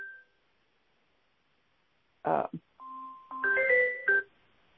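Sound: phone ringing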